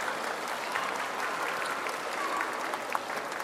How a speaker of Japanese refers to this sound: 皆さん、本日は大阪府立八尾高等学校吹奏楽部のスプリングコンサートにようこそお越しくださいました。楽しみに待っていましたという方、どうぞ大きな拍手をお願いいたします。